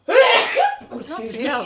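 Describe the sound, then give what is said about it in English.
A single loud sneeze bursts out suddenly, followed right away by voices talking and a bit of laughter. “Go to sneeze.”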